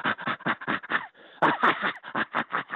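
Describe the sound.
A psychology professor imitates the laughter of a tickled chimpanzee with rapid, breathy panting, a quick rhythmic series of huffs with one brief pause in the middle, fairly loud.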